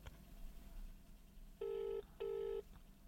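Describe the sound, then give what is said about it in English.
A phone being dialed to call a friend, heard as two loud, steady electronic tones of about half a second each with a brief gap between them, over quiet background noise and no talking. “Are you phoning a friend?”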